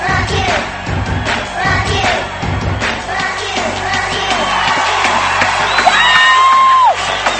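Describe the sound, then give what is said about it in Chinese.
A crowd at a party with a DJ claps and cheers in a dense, steady roar, with shouts and high whistling whoops rising above the noise toward the end. “今天绝对是掌声。继续仲系掌声，鬼哥小姐坐住、企住、瞓住嘅都一齐举起你哋嘅双手。”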